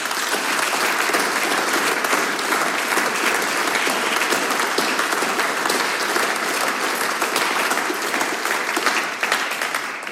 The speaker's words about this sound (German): Nochmal ein großer Applaus für unseren Veranstalter.